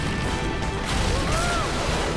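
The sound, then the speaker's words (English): A loud, crunching smash of a large rock breaking apart as a character surfing on lava smashes through it, heavy, followed by a rumbling wash of debris and noise that continues to the end. “He smashes through a large rock.”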